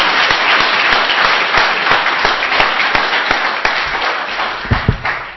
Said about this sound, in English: That was excellent. I think they deserve a better round of applause than that. Come on.